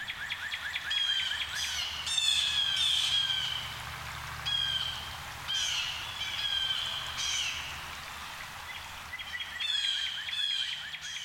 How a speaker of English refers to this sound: There can be small flocks of a few birds, up to hundreds, all heading south. It's a big jay ruckus when they swoop down into a woodlot, like the one in my yard in Fayetteville.